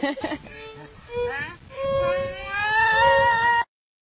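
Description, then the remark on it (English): A rancher's donkey brays in harsh, choppy bursts that swell into a long, rising, strained wail, in a duet with her violin, whose tones are sustained alongside it before everything cuts off abruptly. “Anyway, so there are the donkey and the violins.”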